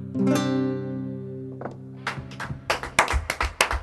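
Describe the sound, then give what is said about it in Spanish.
A sustained, harmonic sung note fades out, then scattered clapping from a few people starts up, irregular and sparse at first, growing into a short burst of small-group applause. “Ay, qué pena me da no poder aplaudir más.”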